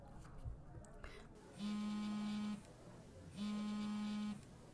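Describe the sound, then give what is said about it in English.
A phone rings twice, each ring a steady, buzzy low tone lasting about a second with a short pause between, sounding over a faint background murmur. “Is that your phone? It's okay, go ahead and answer it.”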